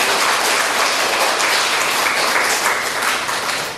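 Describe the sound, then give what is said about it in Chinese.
Steady, enthusiastic applause from a crowd welcoming a Buddhist master to a Friday class, a dense wash of many hands clapping at a constant loudness that only eases slightly at the very end. No one speaks. “好，我们现在热烈掌声欢迎冠上法师。”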